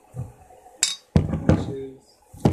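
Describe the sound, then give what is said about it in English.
Glasses clink together in a toast, several sharp bright knocks spread over a couple of seconds, with a murmur of low voices underneath. “All right, cheers, bud.”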